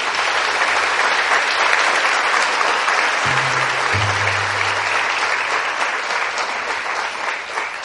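Sustained applause for Jesus Christ from a large audience, a dense, steady wash of clapping that holds at full strength for several seconds with no voices standing out.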